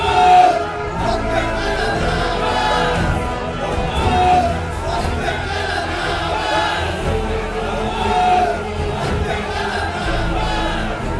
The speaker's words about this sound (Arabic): فصرخ الجمهور كله معا: اقتله وأطلق لنا ابن عباس.